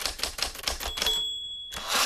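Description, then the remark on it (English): A typewriter clacks away in a quick, uneven run of sharp keystrokes, then a bright bell rings out and lingers before the typing picks up again, crisp. “There are some sounds that in the modern age, you don't hear too often anymore. Typewriters.”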